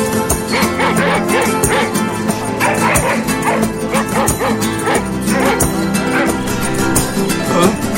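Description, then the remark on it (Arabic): Several guard dogs gathered at a palace at night bark loudly and repeatedly, their sharp yaps overlapping in a steady, agitated stream that fills the whole stretch, with a few whimpering yelps mixed in over a dense background. “وفي الليل جمع كلاب الحراسة في القصر.”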